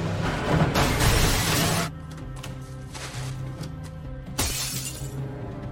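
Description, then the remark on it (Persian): A car smashes through glass: a loud, sustained shattering crash lasts almost two seconds, then scattered tinkling debris over a low steady hum, and a second sharper burst of breaking glass near the end. “عالیه، با ماشین رفتیم تو شیشه”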